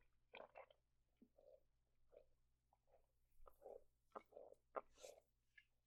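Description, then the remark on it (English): A steady run of wet gulping swallows, about a dozen short throaty bursts with mouth clicks, as someone drinks in quick succession with no talking. “Could you hear me drinking? My gulping was really loud.”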